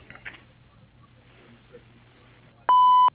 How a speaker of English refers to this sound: If you got this recording, best to just dial 0 and go back to the operator, and she will forward on a message to me, or you can leave a message after the beep.